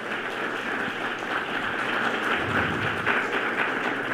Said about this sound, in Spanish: Por favor, les pido que le demos un aplauso a estos expertos.